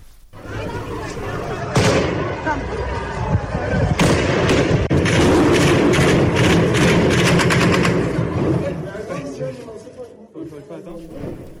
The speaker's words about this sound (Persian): و به هر حال توی اعتراض‌ها اون بحث برخوردها و تیراندازی‌ها هم بوده که میتونیم یه بخش کوتاهیش هم بشنویم که فضا برامون مجسم بشه.